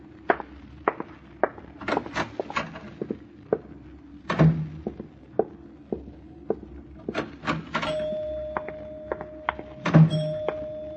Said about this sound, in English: I rang the elevator bell for us.